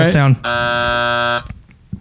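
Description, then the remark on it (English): A short burst of voice gives way to a single loud buzzer, a harsh, steady electronic drone lasting about a second before it cuts off sharply. “I need my buzz sound.”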